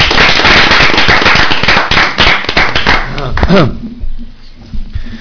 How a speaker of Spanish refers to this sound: Y luego quería dar un fuerte aplauso para esas dos personas que me han ayudado. Y muchas gracias por estar aquí.